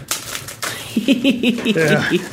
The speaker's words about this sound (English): No, I don't have a pair of scissors here, so I got to stab this one with stamp tongs to open it up.